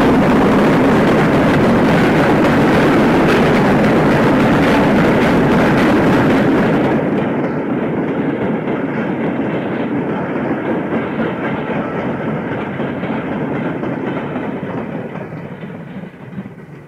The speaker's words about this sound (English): is driving hard as it leaves a curve of smoke and steam hanging in the air. It bursts out from the road overbridge, through the station.